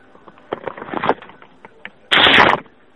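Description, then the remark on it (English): A fart from a woman on a phone call comes through the line: a faint crackly sputter first, then one loud, raspy half-second blast that sounds thin and band-limited, with no talking. “Did you fart on the phone, you dirty bitch?”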